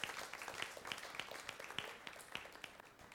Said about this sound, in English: Let's give the Lord a clap for it.